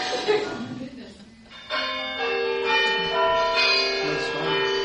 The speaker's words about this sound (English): Someone's phone's Bluetoothing? Let me see. It's not my phone. Did that sound like good bells? Yes. All right. We'll go with that. I don't have that ringtone, so that was not my phone. Somebody silenced Bluetooth onto my sound system.